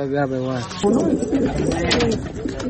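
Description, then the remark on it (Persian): Pigeons kept by a 17-year-old pigeon keeper coo in low, throaty murmurs on a rooftop in Kabul, Afghanistan, forming a steady, busy backdrop for a few seconds, with an indistinct human voice mixed in near the start. “هر روز صبح برای تماشای پرواز کفترایش در آسمان کابل بالای بام میاید.”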